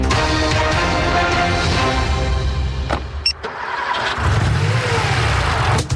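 A car engine cranks and starts, then revs loudly and steadily, with a brief dip midway before the motor roars back stronger. No one speaks.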